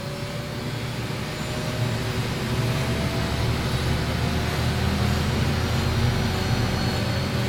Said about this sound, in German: Zweimal pro Woche lässt die MONUC einen russischen Hubschrauber die 80 Kilometer von Bunia nach Mongwalu fliegen.